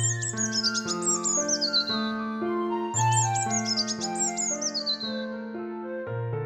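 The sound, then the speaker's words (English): A robin redbreast on a bird table in a garden chirps in two quick bursts of bright, rapid twittering, set over a steady, gentle musical backdrop of sustained tones. “He opened the window and looked outside, spotting a little robin redbreast on the bird table in the garden.”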